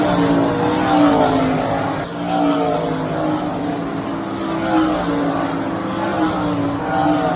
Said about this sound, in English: We are at Oshwegan Speedway, and the sprint cars are on the racetrack. These guys are doing time trials right now, and we'll get into all that. That rumble you hear in the background